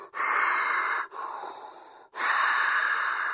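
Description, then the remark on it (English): Loud, hissing Darth Vader-style mechanical respirator breathing: three long, raspy breaths, each about a second, alternating inhale and exhale with brief pauses between, and no talking. “Cue the respirator breathing sounds.”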